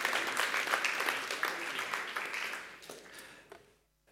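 A burst of encouraging audience applause for a chosen participant, dense and steady at first, then thinning out and fading away over a few seconds as the clapping dies down.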